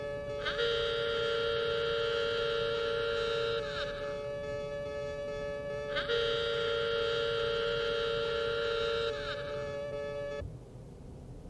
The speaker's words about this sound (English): If the excursion hooter ever blows, repeat after me, our Father, who art in heaven.